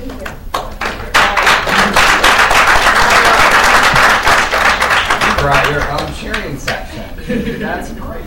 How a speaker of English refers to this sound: Right, your own cheering section. That's great.